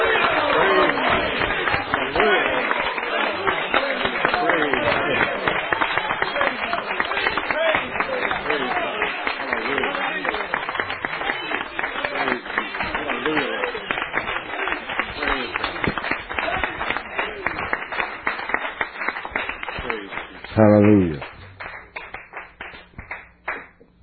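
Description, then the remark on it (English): An audience claps for the Lord steadily and densely for about twenty seconds, a loud sustained patter of many hands, with a voice calling out near the end as the applause thins. “Give the Lord a clap.”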